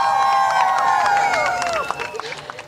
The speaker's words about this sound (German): Applaus und viele erleichterte Gesichter.